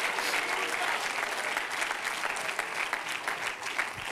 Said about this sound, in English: Clap your hands unto him and bless his name.